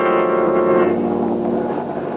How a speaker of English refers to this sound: As we return to our story, Boston Blackie and his friend Mary are in an airplane high over the track from which the train disappeared.